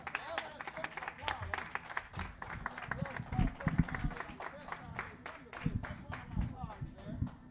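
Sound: audience applause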